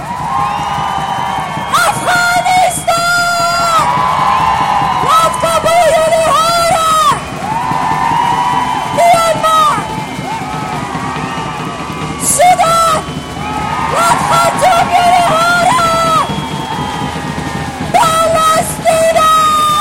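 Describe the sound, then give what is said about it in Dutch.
A large crowd shouts and cheers loudly in a sustained, dense roar, with individual whoops and yells rising above it in repeated surges and only brief dips between waves. “Wanneer ik deze plekken noem, wanneer ik een land noem die nu illegaal gebombardeerd wordt, wil ik jullie luid horen schreeuwen.”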